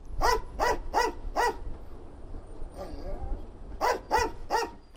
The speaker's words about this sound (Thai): อาชาคือสุนัขเพศเมียพันธุ์ English Springer Spaniel ที่ประจำอยู่ที่สนามบินนานาชาติโจโมเคนยัตตาในเคนยานะครับงานของอาชาคือตระเวนดมกลิ่นตามกระเป๋าสัมภาระผู้โดยสารเพื่อหางาช้างเถื่อนที่ถูกลอบนำไปใส่ไว้ในกระเป๋าเหล่านั้น